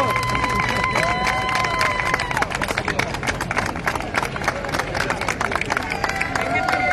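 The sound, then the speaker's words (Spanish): A crowd applauds steadily for several seconds, dense overlapping claps mixed with cheering, whoops and a few whistles, loud and continuous from start to finish. “Gracias por los aplausos, chicos.”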